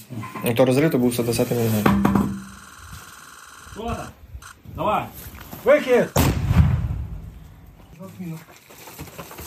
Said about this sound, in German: Und jetzt übernimmt unser 120mm Mörser. Diese Explosion, das war der 120mm Mörser.